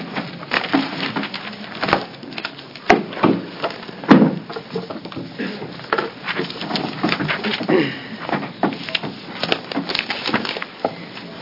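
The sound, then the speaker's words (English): Papers being shuffled at a committee public hearing, between the hearings on House Bill 2744 and House Bill 2178: a steady run of dry rustles, crinkles and soft thumps over about eleven seconds, irregular in rhythm and moderately loud, with no clear talking. “Sorry, we're shuffling a few papers here, and then we'll open a public hearing on House Bill 2178.”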